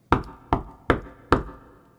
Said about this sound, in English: Just then, he heard a knock on the door.